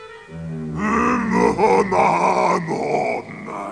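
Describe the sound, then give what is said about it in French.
A man's voice lets out a deep, drawn-out roar, growling and wavering in pitch for a few seconds, loud and with no words. It imitates the bellow of a giant who has just entered a kitchen. “Le géant entra et se mit à rugir.”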